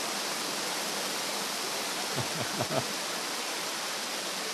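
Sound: rain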